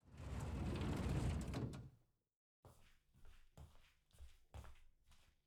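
household object, door sliding closed

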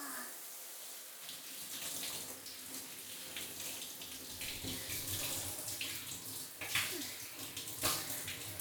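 household object, shower water running

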